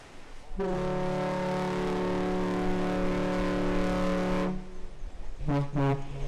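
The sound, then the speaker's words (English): A car ferry running between Manitowoc and Ludington, Michigan, heard from a lighthouse deck, blasts its deep horn twice as a salute: first a long, steady, loud toot of about four seconds, then a shorter second toot after a brief pause, with rich harmonic tones. “That's two toots like that, that's a salute to us.”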